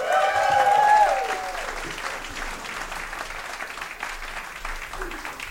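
An audience at a monthly stage show claps after a horse act on stage, steadily for several seconds, a dense crackling wash of applause, with a high whistle or whoop sliding downward near the start before the clapping settles and carries on evenly.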